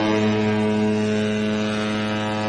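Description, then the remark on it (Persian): A passenger ship's horn sounds one long, unbroken blast as the ship approaches the quay at Suez, a deep, steady tone rich in stacked harmonics that holds at constant loudness for the whole stretch with no voices. “همون موقع صدای ممتد بوق کشتی بلند شد.”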